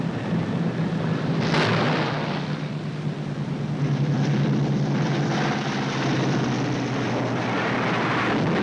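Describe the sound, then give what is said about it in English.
A damaged propeller airplane, its badly wounded pilot trying to bring it in to land, drones loudly and steadily, its deep engine hum and broad roar sustained throughout, with a brief harsher surge early on. No voices. “In this ship, there's a pilot with both legs shot away, but he's still trying to bring that plane in.”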